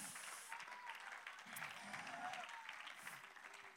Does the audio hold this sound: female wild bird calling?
no